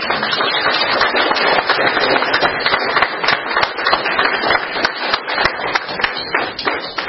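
A round of applause from a group, dense overlapping claps that stay steady and fairly loud for about seven seconds, with no voices over it.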